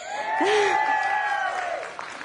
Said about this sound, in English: Totally fishing for applause, apparently.